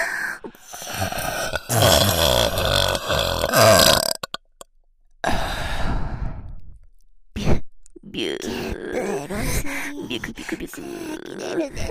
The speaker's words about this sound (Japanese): 濃厚なエロゲップ。